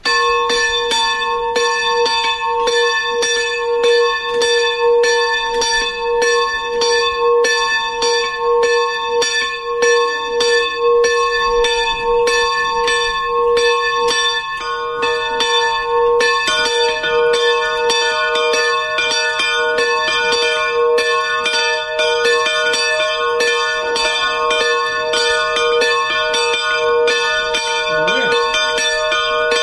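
The bell of the rock chapel in Miskolctapolca, Hungary, rings steadily and continuously, its rich overlapping tones sustained and loud throughout, with repeated rhythmic strikes and no speech.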